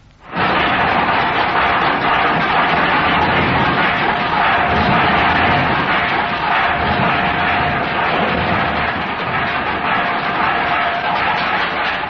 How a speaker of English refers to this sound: So let's have a little practice first, eh? Right. Now, first, let's hear from the dustbin lids.